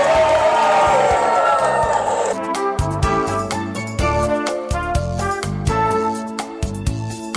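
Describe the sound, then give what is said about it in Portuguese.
A live crowd at the comedy show Comédia que Salva, held to help people of the Litoral Norte, cheers and shouts loudly for about two seconds, then upbeat music with a steady thumping beat takes over while the crowd noise fades beneath it. “Grita mais!”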